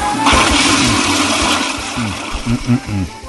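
A toilet flushes with a loud, steady rush of swirling water that lasts a few seconds, while some low tonal sounds rise and fall underneath near the end.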